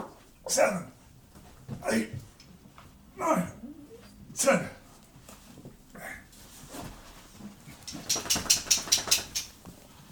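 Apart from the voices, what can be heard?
dogs making noise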